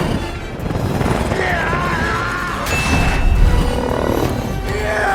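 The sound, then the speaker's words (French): In an Avatar film scene, a helicopter is grabbed by its tail and hurled onto a rock: a loud, dense rumble of crashing metal and booming impacts, with screeching whines and a sharp surge in the middle, continuing roughly throughout. “Et juste après, il chope l'hélico par la queue et il le balance comme ça sur un rocher, et ce même plan avait déjà été utilisé dans Avatar 1.”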